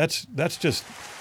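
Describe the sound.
A man speaks briefly, then a steady, even wash of applause from a crowd follows, a continuous crackle of many hands clapping at moderate volume.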